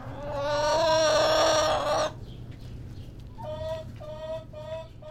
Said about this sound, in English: His chicken coop is in the cement backyard where I met the 20 hens in his flock and watched as he retrieved a single egg from the chicken coop he built.